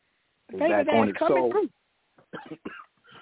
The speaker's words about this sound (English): Pardon me, I still got this little cough.